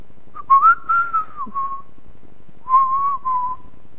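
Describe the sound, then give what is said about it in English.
Someone whistles a short tune in two phrases, a long wavering line followed by a brief pause and a shorter answering phrase, clear with no talking. “Maybe he was twiddling his thumbs and whistling.”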